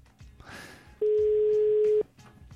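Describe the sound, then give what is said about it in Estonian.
A phone's ringing tone as a call is placed to a prize winner who does not answer: one steady, mid-pitched electronic tone lasting about a second, loud and even, rising out of a quieter rustling background and cutting off cleanly. “Kutsub, aga keegi ei tule.”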